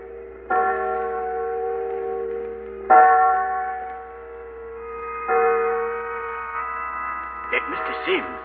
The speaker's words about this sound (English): Listen. There go church bells. That proves it's Sunday.